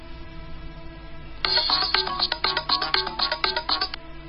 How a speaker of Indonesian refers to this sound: Tiba-tiba saja handphoneku berbunyi. Dan ketika aku baca, ternyata itu SMS dari kakak pertamaku.